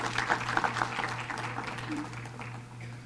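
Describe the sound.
A crowd applauds steadily with dense, overlapping claps that hold an even level throughout, accompanied by a low steady hum and faint murmuring voices.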